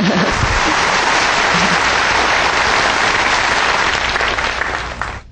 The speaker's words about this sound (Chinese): 大家给平通的同修啊，热烈鼓掌一下。